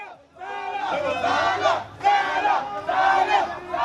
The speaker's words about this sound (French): L'équipe égyptienne vient à peine de débarquer à Garoua et après une escorte improvisée, le bus finit par arriver à l'hôtel des joueurs avec un comité d'accueil bruyant et enthousiaste, avide de voir quelqu'un en particulier.